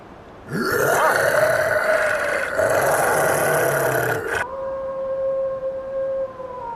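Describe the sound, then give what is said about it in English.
A loud, rough animal roar that swells upward in pitch and rumbles on for about four seconds, then cuts off abruptly, leaving a faint steady tone ringing behind it. “Again, that animal roar.”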